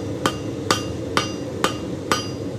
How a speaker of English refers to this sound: Back at the anvil, the scroll is taking shape. Knapp changes to a smaller hammer, the better to do the finer finishing work.